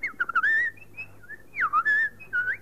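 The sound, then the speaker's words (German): A person whistles an imitation of birdsong: quick chirpy trills and sliding up-and-down phrases in short bursts, clear, with no talking. “Naja, also es ging munter durch den Wald, die Sonne schien, der Himmel war blau, die Vöglein sangen.”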